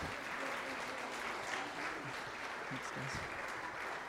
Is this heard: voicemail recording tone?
no